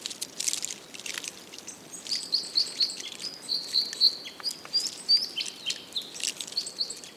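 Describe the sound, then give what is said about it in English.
A large winter flock of siskins calls continuously, many thin high twitters and tweets overlapping in a busy chatter, with faint crackling beneath and no voices. “Winter gatherings of siskin can be huge and spectacular, and many's the time I've been showered with conifer seeds as up to 100 birds strip the cones high above me, making a crackling sound that can be heard a surprisingly long way away.”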